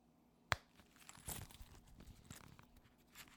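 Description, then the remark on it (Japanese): Paper rustling and crinkling as receipts are pulled from a bundle of papers in an open wallet inside a car at lunchtime, starting with a sharp snap, then a run of soft irregular crackles and scrapes as a coffee-stand receipt is taken out. No one speaks. “レシートのような紙類が束になって収められているそこから、今手にするコーヒースタンドのものを取り出した。”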